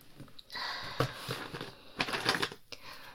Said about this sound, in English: I have scissors. This one's just a regular pair. Snip.